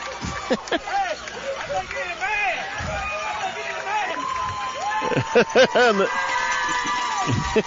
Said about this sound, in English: the cheering for the coach who got back up. He's okay, but yeah, he probably saw his life flashing before his eyes.